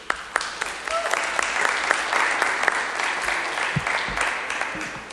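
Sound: round of applause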